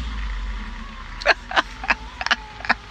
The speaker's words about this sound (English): Complete with background side effects of somebody dragging a trailer along and a car.